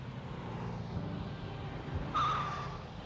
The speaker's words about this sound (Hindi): क्या गाड़ी खरीदी है? और तेज।